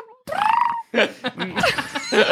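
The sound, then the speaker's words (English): A bird gives one drawn-out, buzzy chirp, then after a brief gap a quick string of shorter, irregular chirps and chattering calls. “Yes, it's just now it's just chirping. This is a new development.”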